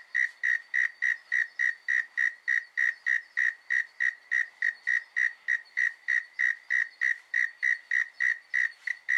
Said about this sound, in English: And this is Mike Williams, who's a radio producer in Sydney. And he stuck his microphone out his back window and he got the most beautiful frogs, especially for you.